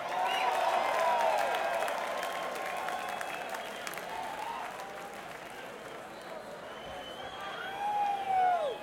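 A crowd applauds steadily for several seconds, a dense wash of clapping with scattered whistles and cheers rising over it, swelling again near the end.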